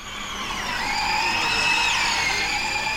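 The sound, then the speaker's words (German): A high electric whine from a small, student-built, 1.50-metre electric race car resembling a Formula 1 car, speeding over the asphalt at the Hockenheimring in the morning, several tonal layers gliding in pitch as it swells to a peak and eases off, with no engine roar and no voices. “Der 1,50 Meter Rennwagen braust über den Asphalt. Kein Motorenheulen, stattdessen ein merkwürdiges,”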